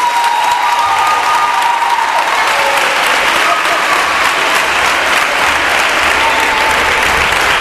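Loud, sustained audience applause: a dense wash of many hands clapping at once, steady and unbroken from start to finish, with a few faint whistles rising briefly above it.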